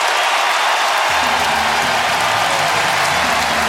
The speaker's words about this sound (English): Driven into the gap, and nobody's there, and Devers off to the races, and he's going to stop at second. The Giants take the lead, and listen to this crowd.